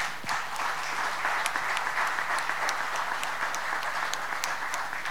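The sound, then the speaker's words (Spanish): A crowd applauds steadily for about five seconds, a dense, even wash of many hands clapping at once with no voices over it. “La verdad que te mereces un aplauso”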